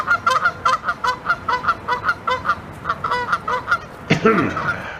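A goose honks over and over in a quick, steady run of loud, nasal calls, finishing with one longer, harsher honk.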